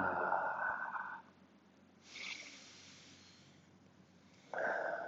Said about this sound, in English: And we breathe. Little embryonic breathing.